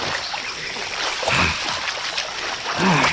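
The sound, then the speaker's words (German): Water splashes and sloshes steadily as someone takes a cool bath, a continuous wet churning with a couple of brief vocal sounds rising over it. “Es gibt nichts Entspannenderes als ein kühles Bad.”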